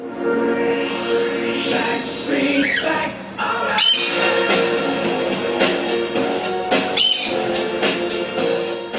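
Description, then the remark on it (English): A cockatoo squawks and screeches loudly and continuously while dancing, harsh raspy calls with sharp bursts rising over a busy, dense background for several seconds. “What you're hearing is an audio clip of a video of a bird named Snowball”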